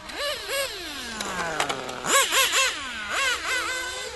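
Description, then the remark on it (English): Remote-controlled racing cars whine with high, buzzing electric motors, their pitch repeatedly shooting up in quick revs and then sliding down in long falling sweeps. No one speaks. “Controlled racing cars, sent by John Tudor.”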